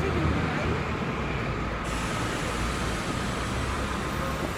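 Busy bus station ambience: a steady, loud wash of idling engines and traffic rumble, with faint indistinct voices mixed into the continuous background noise.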